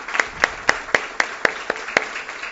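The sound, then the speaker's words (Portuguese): Applause in a steady, even rhythm: about ten sharp, crisp claps at roughly four per second, moderately loud, with no voices over them. “Esse pessoal tem que tomar uma salva de palmas.”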